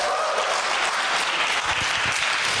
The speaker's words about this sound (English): this is Zoe, give her a round of applause